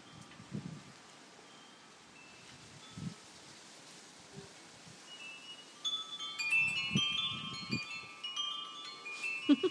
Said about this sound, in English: You can certainly hear the wind getting up. Things are starting to sway in my garden.